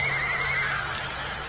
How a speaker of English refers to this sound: Horse! It's working! It's working!